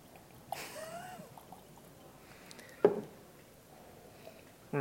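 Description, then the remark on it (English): A brief, faint pour of water into a glass, its tone rising as it fills, followed by a couple of soft knocks and clinks. “I have water here.”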